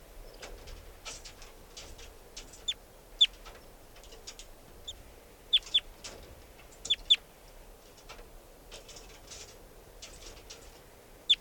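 wild bird chittering

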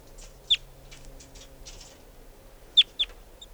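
wild bird chittering

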